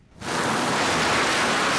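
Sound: heavy rain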